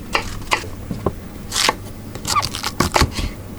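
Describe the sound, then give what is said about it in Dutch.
A knife chops a vegetable into small cubes on a board, with a quick, uneven run of about a dozen crisp cuts and no voices. “Maar een mooi blokje snijdt.”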